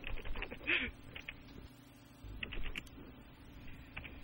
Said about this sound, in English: She's typing something to me.